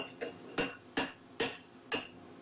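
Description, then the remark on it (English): A microwave oven hums steadily while its mechanical timer ticks in an even rhythm, about five or six crisp clicks over a couple of seconds, moderately loud, as an egg cooks inside with the timer set to one minute. “Is the egg. Microwave.”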